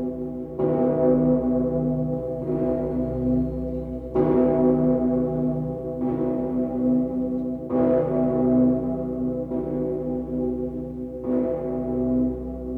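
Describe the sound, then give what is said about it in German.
A huge, deep bell of Cologne Cathedral in Germany, cast from cannons, tolls slowly and steadily, about seven heavy strikes roughly two seconds apart, each blooming into a long humming resonance that overlaps the next. “Deutschland, der Kölner Dom, der dicke Peter, aus Kanonen.”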